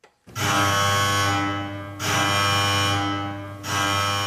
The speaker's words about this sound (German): Alarm in der Festung Schönenburg.